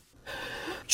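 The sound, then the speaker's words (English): One sneeze from a person with a cold: a drawn-out, breathy inhale builds for most of the moment, then breaks into a sudden loud, hissing burst right at the end. No one speaks. “Bless you. Are you okay?”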